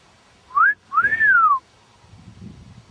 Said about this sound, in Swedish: Du har ingen visselpipa? Nej. Du kan vissla var 20 sekund.